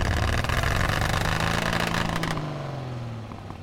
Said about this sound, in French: Il faut que je récupère des affaires dans l'usine. Le gardien de l'usine arrête la voiture.